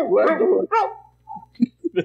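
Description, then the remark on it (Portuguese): A person's voice mimics a dog barking: a long, rough woof, a second shorter one, then a few quick, softer yips. “Macho, a sonoplastia dessa sessão é perfeita, né, eu tô falando do pessoal, eu tô falando do pessoal, isso aí sou eu que tô imitando o cachorro, só avisando.”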